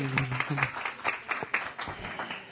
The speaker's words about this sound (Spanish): Ok, puede tomar su asiento, hermana. Muchas gracias. O sea, que la manipulación... Sí, démosle un aplauso con ganas, mejor, ¿eh? Ok.